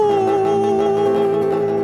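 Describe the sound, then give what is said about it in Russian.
A group of people howl together in one long, steady, loud mid-pitched tone that holds for about two seconds. They are howling like dogs on instruction, as a lesson in singing like demons. “Воют все.”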